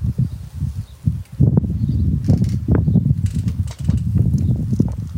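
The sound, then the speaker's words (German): Wind rustles steadily for several seconds, a dense low rushing noise with a crackly, fluttering texture and brief dips in loudness, with no voices. “Hört den Wind im Hintergrund, hört das Rauschen.”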